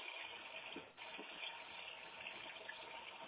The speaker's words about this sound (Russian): Подождите. Да, прошла вода, сейчас горячая идет, а нормально.